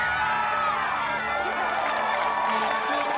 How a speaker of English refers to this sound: Brink receives the inline skating trophy and holds it up to the crowd. Go skaters! Nothing we can't do! Ralph and Brink's mom cheer.